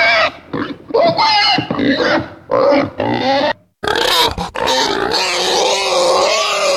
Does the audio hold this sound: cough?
no